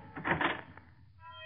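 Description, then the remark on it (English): A key rattles and turns in a door lock, unlocking the door: a short burst of metallic clicks and scraping, followed by a brief sustained tone as it fades. “All start when a door is unlocked by...”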